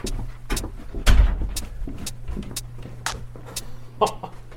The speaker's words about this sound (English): You can pull that door closed if you like.